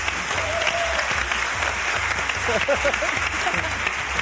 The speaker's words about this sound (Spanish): Y Secund de la Rosa, que me ha gustado mucho ese aplauso del estudio.